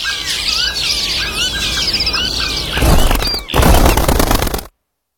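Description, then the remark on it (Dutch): A dense chorus of many birds chirping and calling, then a loud rushing burst like a flock's wings flapping in takeoff, before the sound cuts off abruptly. “De vogels verdwijnen. Help Vogelbescherming Nederland en zorg dat de vogels niet stilvallen.”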